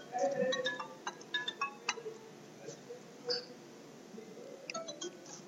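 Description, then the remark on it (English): A phone rings with an incoming call, its ringtone playing bursts of short, bright melodic notes that pause and repeat over a low, murmuring background. “Can you believe I'm getting a phone call?”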